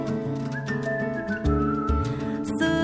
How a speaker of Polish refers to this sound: Gwiżdżę sobie